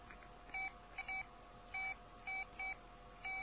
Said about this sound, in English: are you beeping a phone?